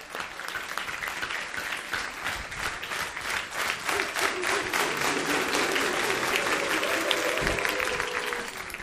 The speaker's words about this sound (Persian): یه تشویق بکنه خودتون رو.